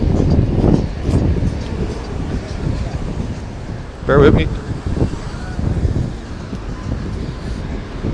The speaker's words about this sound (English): It's also extremely windy here, so I'm going to have to test this podcast out before I publish it.